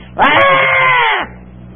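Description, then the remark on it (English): A voice imitates a baby's scream: one loud, sustained, shrill wail lasting about a second, starting abruptly and cutting off sharply, with only faint background hiss around it. “And do you know what babies do? They scream. I mean, they don't just cry, they scream.”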